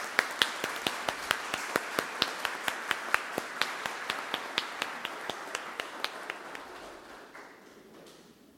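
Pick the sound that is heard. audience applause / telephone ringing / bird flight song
audience applause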